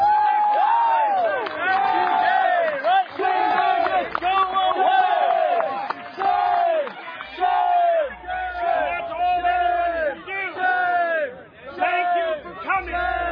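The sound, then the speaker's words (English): A large crowd yells and chants loudly and continuously to drive out a professor speaking about freedom of speech, many overlapping voices rising and falling in rhythmic shouts with occasional whoops, sustained for the whole stretch without a break. “And he gets driven out because people were yelling so loudly.”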